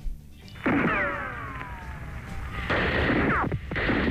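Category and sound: sound effect, gunshot sound effect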